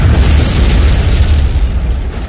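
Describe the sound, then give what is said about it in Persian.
A loud, deep explosion boom rolls on as a heavy, sustained rumble for a couple of seconds, powerful, with no voices, in a town among dense, towering palm groves. “اینجا فقط یک صدای بلند دارد که گاه و بیگاه همه چیز را به هم می ریزد. صدای اسلحه و انفجار.”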